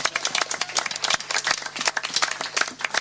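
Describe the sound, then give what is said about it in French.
A crowd applauds the evening's designated drivers steadily for about three seconds, a dense, crackly patter of many hands clapping at once at a fairly even, moderate loudness, with no voices standing out. “Je n'ai peut-être pas grand-chose à ajouter, simplement, j'aimerais bien qu'on applaudisse les capitaines de soirée.”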